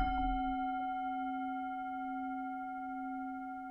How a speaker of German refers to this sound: Ich beginne die Meditation mit dem Gong der Klangschale und hole dich wieder mit dem Gong der Klangschale zurück.